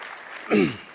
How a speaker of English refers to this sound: We need to give a hand and a clap for all our Sunday school teachers.